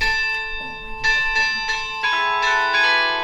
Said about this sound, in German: Das Glockenspiel. Im Mutterhaus der Diakon läutet ein Glockenspiel im frohen Ton. Die Glocken riefen durch Tag und Nacht. Bald ist das Tageswerk vollbracht. Zu bestimmten Zeiten, wir haben es gesehen, läutet das Glockenspiel wunderschön.